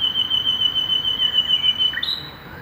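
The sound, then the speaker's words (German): A nightingale sings a long, steady high whistle that ends in a quick rising note, heard over a wash of background noise. “Ab dem Frühjahr singen die Nachtigallmännchen nächtelang, bis erfolgreich ein Weibchen mit dem melodischen Gesang überzeugt wird.”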